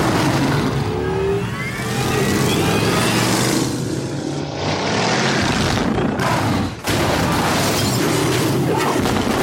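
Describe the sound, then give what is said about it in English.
A powerful car engine roars loudly, revving with rising, surging pitch and rumbling continuously throughout, with one brief dip before it thunders on again. No one speaks. “I'll get my car. I brought mine.”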